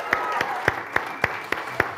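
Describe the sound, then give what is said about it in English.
Steady rhythmic clapping for the online audience, about seven sharp claps in even time over a low background hum, with no clear cheering or voices. “So let's just give it up for online family.”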